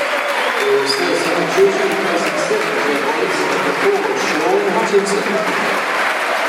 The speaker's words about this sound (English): Good applause for Jed Wallace.